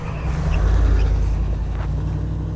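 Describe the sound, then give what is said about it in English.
A car engine rumbles on a street less than a mile from NPR West, a deep steady drone that swells briefly and then eases slightly as the vehicle slows, with no one speaking. “And there's a familiar car slowing down.”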